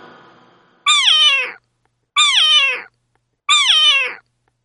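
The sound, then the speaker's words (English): A cat meows three times in a row, each call loud and drawn out with a falling pitch, separated by short silences, with no talking. “C for cat.”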